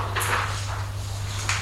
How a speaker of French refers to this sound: Il trouve la chambre numéro 5. Ouvre la porte